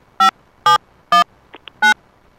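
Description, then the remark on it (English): A phone number being dialed on the air during a broadcast: four short, buzzy electronic tones spaced roughly half a second apart, with a couple of faint clicks in between and no talking. “Nothing like a phone dialing on the air.”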